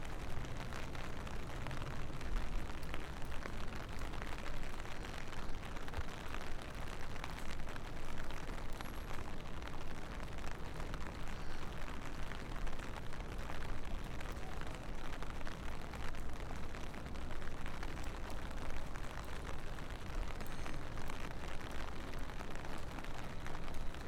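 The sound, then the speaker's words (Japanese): Steady rain falls without pause, a dense, even hiss of countless drops pattering across a surface, with a low rumbling undertone and no voices. “このジメジメさえなければ、雨の音は嫌いじゃないんだけどね。”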